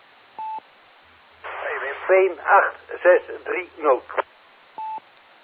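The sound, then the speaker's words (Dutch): A short electronic dialing-style beep, then a stretch of muffled talk over a thin, narrowband line, followed by a second identical beep at the end. “Hey, telefoon, joh.”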